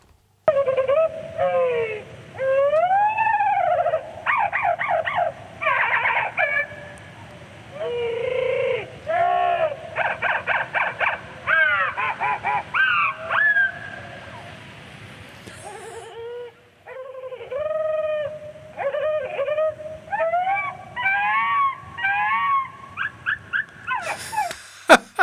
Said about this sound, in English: Is that a whale? No, it's the same blackbird you just heard slowed down.